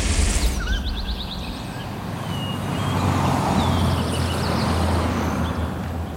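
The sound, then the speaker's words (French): A column of cars, led by three white Toyotas, drives up the narrow road to the Col de l'Échelle in the Hautes-Alpes, France, toward the Italian border in April 2018. A steady engine rumble swells and eases, with birds chirping faintly above the traffic noise. “Sur la route étroite qui monte au col de l'échelle, une colonne de voitures roule vers la frontière italienne.”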